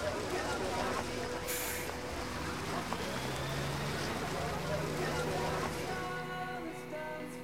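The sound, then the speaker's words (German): A bus's large engine rumbles steadily, its pitch rising as it pulls away from a schoolyard with pupils seated aboard and keeps driving, with a hiss near the start and faint background chatter throughout. “Die Schüler steigen in den Bus und nachdem sich jeder einen Platz gesucht hat, fahren sie endlich los.”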